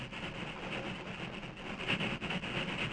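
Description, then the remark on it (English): A train climbs a slope to the crest of Jackknife Hill and continues westward, a dense continuous mechanical roar with a faint metallic hiss on top, even in loudness, with no voices. “The engine reached the crest of Jackknife Hill and continued westward without incident.”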